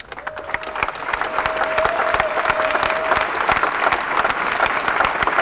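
An audience breaks into sustained applause after a speech calling for no nuclear weapons and no nuclear power plants, a dense, steady wash of many hands clapping at an even loudness, with a faint whistle-like tone briefly sounding early on.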